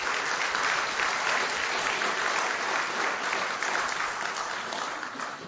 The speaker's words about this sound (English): And I want to acknowledge the gracious hand of God in the election on Tuesday. Can we get a round of applause for that?